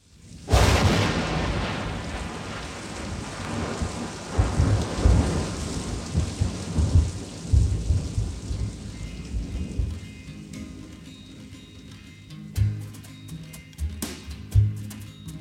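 A sharp thunderclap cracks open into a long rolling rumble over a steady wash of heavy rain, with fainter rumbles returning later as the downpour continues, no voices present.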